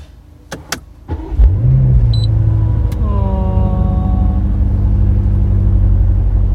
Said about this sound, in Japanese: じゃあ早速ですけど、 はい、 まだエンジンかけてないので、 はい、せっかくなので、 イグニッションの音を、まあ、車内からですけどね、聞いてもらいましょう。